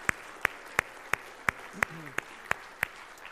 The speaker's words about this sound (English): And I would ask that you would join me even in giving a round of applause and thanking them.